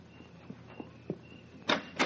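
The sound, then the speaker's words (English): A door is opened: a few soft latch clicks and creaks, then two louder rustling, rattling bursts near the end. No one speaks. “Go on, get the door.”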